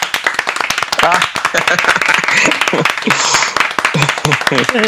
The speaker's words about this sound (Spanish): Quisiera encontrar alguna palabra indicada para hacerlo sentir más orgulloso de lo que ya está, pero lo único que se me ocurre es que este equipo que está aquí dentro de esta cabina le brinde este aplauso, hermano.